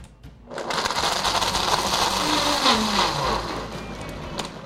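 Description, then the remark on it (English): A blender motor whirs loudly for about three seconds, a dense grinding roar with a shifting pitch as it churns about a cup and a half each of ice and orange juice with a little lime juice, then winds down. No one speaks. “The hardest part of it is cleaning up the blender.”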